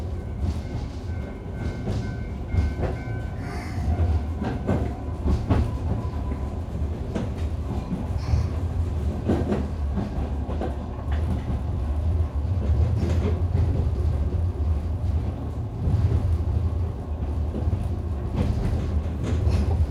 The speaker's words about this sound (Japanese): シリンダーから蒸気を吐き出すブラスト音、ガタンゴトンとレールの継ぎ目を車輪が叩くジョイント音、ポッポッポッと煙突が煙を上げるドラフト音は